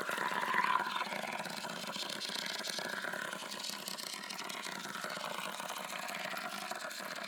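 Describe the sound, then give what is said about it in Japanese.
Warm carbonated water sprays steadily onto a scalp during a carbonated-water head spa, a dense fizzing hiss that runs unbroken and evenly loud from start to finish, with no voices. “へへ、ほいじゃみっちり炭酸ヘッドスパ楽しんでくださいな。”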